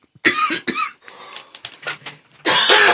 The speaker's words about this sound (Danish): Ej, det må I altså undskylde, det er virkelig træls. Der er lige lidt hoste og kriller her tydeligvis.